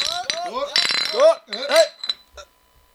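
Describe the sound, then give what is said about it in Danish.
Drinking glasses clink together in a toast several times in quick succession, bright, with a brief murmur of voices mixed in before it fades to quiet. “Nå, skål!”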